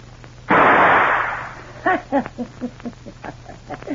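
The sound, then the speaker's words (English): A single loud gunshot from a gun, fired to shoot the key out of a door lock, a sharp burst with a roaring tail fading over about a second, followed by a string of short, voiced utterances. “Get it and shoot the key out of the door behind you.”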